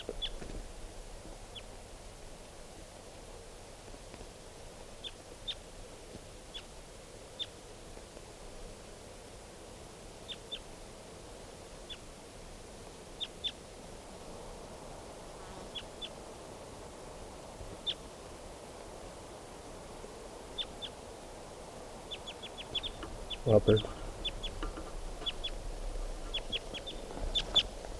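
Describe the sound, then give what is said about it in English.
A wild bird, flying across a clearing, calls with short, high chirps repeated at irregular intervals, faint over a steady hiss of background noise, with a louder burst of calls near the end. No one speaks. “I'm not sure if it's a male now, but that was a wild bird, and it just flew across the clearing.”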